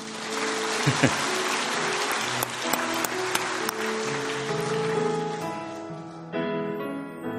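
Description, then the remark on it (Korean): An audience claps steadily in a dense wash of applause as a speaker begins to sing a song about the Lord, with a few sharper individual claps standing out, then the clapping thins as sustained tones and a murmur of voices continue underneath. “원래 노래 부른다면 박수 치는 겁니다.”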